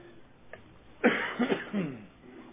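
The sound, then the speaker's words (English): A loud fit of coughing: three harsh, raspy coughs in quick succession after a brief quiet moment, with no talking. “I still got the hoop and cough or whatever it is, so we'll see how far we get.”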